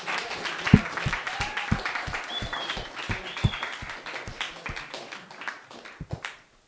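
Audience applause fills the room for several seconds, dense and steady clapping with a few sharper claps standing out, then fading quickly to silence.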